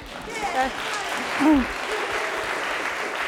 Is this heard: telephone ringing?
no